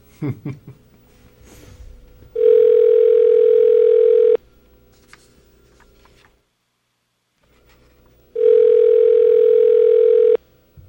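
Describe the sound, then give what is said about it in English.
A telephone ringback tone sounds twice, each steady electronic ring lasting about two seconds with a long pause between, loud and clear over faint room noise, as an outgoing call to a cell phone waits to connect. “Okay, we're reaching somebody.”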